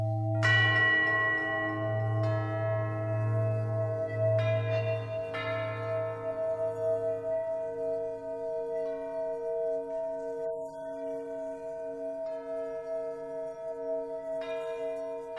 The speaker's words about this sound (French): Les campaneros, ou sonneurs de cloches, ont été particulièrement importants dans la vie des cathédrales et on appelait ainsi campaneros ceux qui construisaient les cloches en bas de la cathédrale et qui les hissaient ensuite jusqu'à la tour